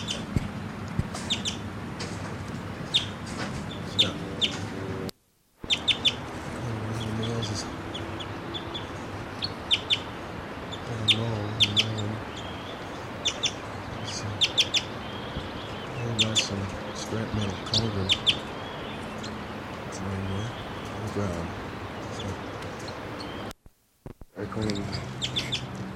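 Birds chitter and call in a forest, including a male chittering in flight, quick, high bursts repeated irregularly over a steady outdoor background, with some low murmuring underneath and a couple of brief dropouts.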